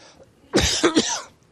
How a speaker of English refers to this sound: Not good to cough when I'm preaching on sickness, but anyway.